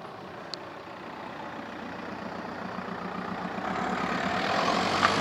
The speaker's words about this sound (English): Now, here comes a car. Wait.